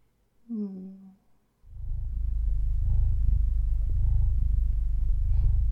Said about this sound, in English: I'm sorry if my purring bothers you. I just wanna get comfortable. You know, it just happens.